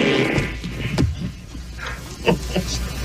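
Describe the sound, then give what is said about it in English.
A voice, Michael Winslow in Police Academy, imitates fart noises: a low, buzzy sputter up front followed by several shorter raspy bursts, fairly loud, with no real words spoken. “That one wasn't an actual fart. That was an actual fart. That was not an actual fart.”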